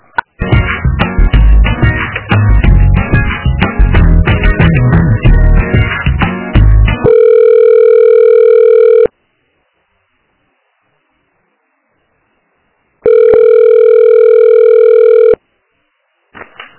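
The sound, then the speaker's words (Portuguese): Tinny hold music during a phone call transfer cuts off into a steady telephone busy tone because the extension was busy, sounding in two long, loud bursts separated by a few seconds of silence, with no one speaking. “É que lá estava ocupado. Deixa eu te transferir para outro ramal, tá?”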